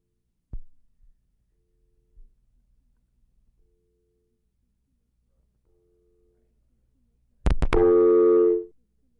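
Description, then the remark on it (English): A few handset clicks, then a faint, steady telephone line tone drifts in and out before a sharp click and a loud, buzzy line tone blare for about a second at the end, after a phone call is accidentally disconnected. “I think I disconnected by accident.”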